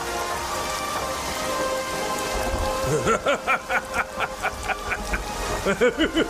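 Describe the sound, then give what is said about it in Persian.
Steady, dense rain hisses throughout with a low thunder rumble underneath, and about halfway through, a series of rhythmic, tonal pulses joins the downpour. “داره بارون میاد.”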